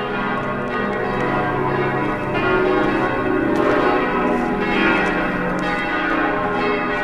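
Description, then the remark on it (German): A church bell in a monastery village rings continuously to signal that a new abbot has been elected, its rich overlapping tones and long resonant hum at a steady, fairly loud level with no voices present. “Die Kirchenglocke läutet, Zeichen, dass der neue Abt gewählt ist.”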